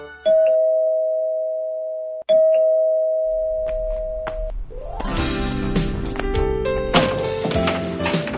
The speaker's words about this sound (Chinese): 刚刚听到电铃声，我就知道是老师来了。